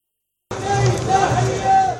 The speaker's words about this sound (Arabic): لعدي التميمي هتفت الجماهير، وعلى روحه وقف الفلسطينيون دقيقة صمت. فحالة من الحداد والغضب عمت قطاع غزة، حيث تجمع المواطنون بدعوة من فصائل المقاومة لدعم أهل الضفة والقدس المحتلة.